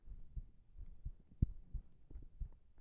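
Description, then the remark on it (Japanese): A steady heartbeat thuds, low and muffled, heard while being held in a hug at bedtime, with paired beats repeating at a calm, even rhythm over a faint background hum. No one speaks. “私の心臓の音、どうかな？”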